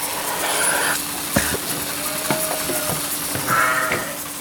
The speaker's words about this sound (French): Pendant une heure, les brebis rentreront une à une dans la salle de traite à un rythme régulier.